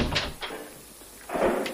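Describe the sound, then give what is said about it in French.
A studio door being opened or shut, with a few short clunks and a rattling rush of movement near the end, moderately loud, no voices. “Parce que la porte était ouverte”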